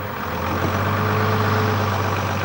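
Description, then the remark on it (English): A council tow truck heading out on patrol in the early morning in Brent, North London, its engine running steadily in a loud, continuous low rumble with a constant drone and no pauses or voices. “Ex-bouncer John Bryden is heading out to patrol on the council tow truck.”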